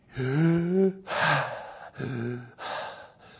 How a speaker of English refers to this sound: Okay, now you kind of get the hang of it here. Breathing has two parts, inhale and exhale.